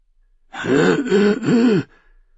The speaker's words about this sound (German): räusperte sich.